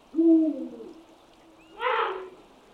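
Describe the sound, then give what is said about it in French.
An eagle owl gives its territorial song, marking the area it occupies with its partner: a deep, resonant hoot booms out once, followed after a pause by a shorter, harsher, higher-pitched call, with no voices. “Mais en réalité, il s'agit d'un chant territorial qui marque la zone qu'il occupe actuellement avec sa partenaire.”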